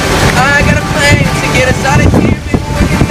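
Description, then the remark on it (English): A singer sings with his guitar outdoors in the Trafalgar Square area near Buckingham Palace as a huge crowd gathers, the wavering vocal melody carrying over steady wind and open-air background noise. “I mean, the fact that …'s sitting there with his guitar. It's cute. A huge crowd end up coming, but have a listen.”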